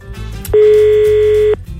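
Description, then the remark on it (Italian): A single steady telephone ringback tone, heard while calling a person, sounds for about a second, loud and clear over a low background of music, then cuts off abruptly. “Risponderà adesso al telefono.”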